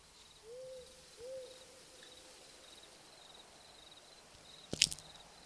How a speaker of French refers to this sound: Dans une forêt, apparemment. Il fait noir? Oui, il fait nuit, apparemment. J'entends des bruits bizarres. Des hiboux, apparemment. Bon, si ce n'est que des hiboux, apparemment.